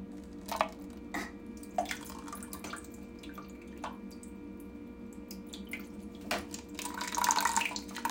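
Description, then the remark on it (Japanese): Urinating into a paper cup: scattered soft drips and taps at first, then a steady hissing liquid stream that swells louder near the end, with no talking. “コップを、紙コップをちょっとこう、おしっこが出るであろうあたりに持っていって、はい、この状態でしてきます。”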